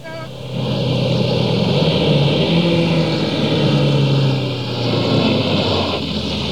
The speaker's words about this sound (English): Cue the car sound.